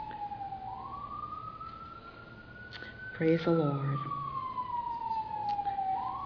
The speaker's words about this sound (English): My, we have sirens all the time in this little town.